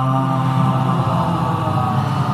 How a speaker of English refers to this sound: Let us start by breathing in together, breathing in. And breathing out with a ha.